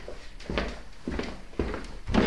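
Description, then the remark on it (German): A few soft, evenly spaced footsteps as a grandmother walks to the door, followed by the faint clunk and creak of the door being opened, with no voices. “Die Großmutter geht zur Tür und öffnet sie.”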